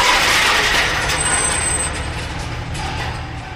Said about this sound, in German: Zwar gelingt es ihm noch, das Fahrzeug zu bremsen, leider kann er jedoch nicht verhindern, dass sie an der Leitplanke entlangschlittern